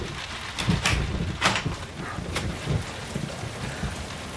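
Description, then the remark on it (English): A branch bangs against a door in a few irregular, fairly sharp knocks over a steady wash of rain and stormy wind, with no one talking. “Just a branch banging against the door.”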